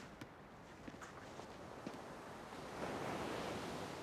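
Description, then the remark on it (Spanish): Ocean waves wash steadily onto a shore, a broad hissing roar that swells louder near the end, with a few faint footstep-like crunches and light wind in the foreground and no speech. “Pero aquí hay mar.”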